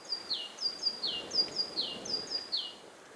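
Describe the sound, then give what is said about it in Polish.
A great tit sings its bright, repetitive two-note phrase, high and clear, repeated about four times in a steady rhythm over a faint background hush. “Mając na przykład sikorę bogatkę, która nam śpiewa, mogę podpowiedzieć prostą rzecz.”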